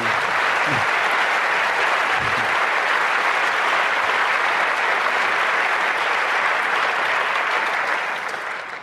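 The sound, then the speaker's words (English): Sustained applause from a conference audience, a dense, even wash of many hands clapping at steady loudness for several seconds before tapering slightly at the end. “Yeah, and you know, if you start lists, just another clap to you, the one we forgot to mention.”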